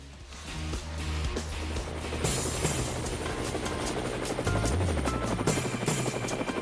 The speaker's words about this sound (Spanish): Y ahí están las aspas del helicóptero.